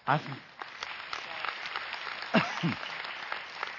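A crowd claps steadily, a dense wash of applause that stays fairly even throughout, with a few cheers or shouts rising above it briefly.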